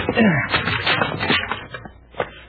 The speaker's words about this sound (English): Try the door. Oh, he locked it. A rickety looking door. One kick ought to break it.